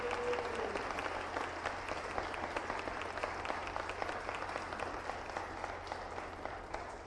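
A church audience applauds a newly introduced children's director, a dense wash of many hands clapping at an even level for several seconds, with no one speaking over it.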